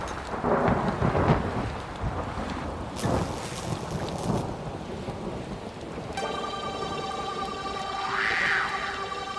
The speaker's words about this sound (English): Pouring rain, thunder and lightning, clash of the titans.